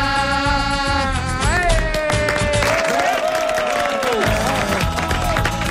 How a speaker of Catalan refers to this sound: Ets aplaudir-se un mateix? Sí. Ho hem fet molt bé, realment.